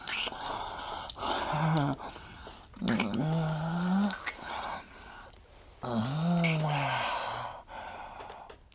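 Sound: person imitating a growl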